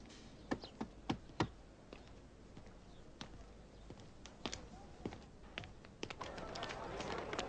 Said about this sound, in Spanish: Llamaré a la puerta.